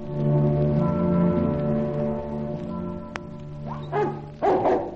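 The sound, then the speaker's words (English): A dog named Sherry lets out a drawn-out, whining tone, then gives two sharp, loud barks near the end, with no one talking. “All right, boy. Good dog.”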